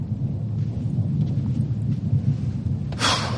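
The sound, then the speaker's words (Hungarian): Steady rain pours down in a storm, with a deep rumble of thunder rolling underneath and a sudden louder burst of downpour near the end. No voices are heard. “Álljunk be ide erre a tornácra. What? A tornácra? Ide! Itt nem esik az eső.”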